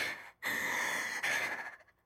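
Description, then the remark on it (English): A voice imitates a woman's heavy, out-of-breath panting: three long, breathy huffs, the first short, then two drawn-out rasping breaths with only a brief catch between them. “And she's just panting.”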